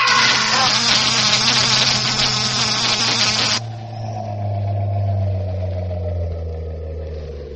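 A loud, harsh electrical buzz with a steady low hum from an electric generator roars for several seconds as a man is electrocuted, then cuts off abruptly, leaving a quieter droning hum that lingers to the end.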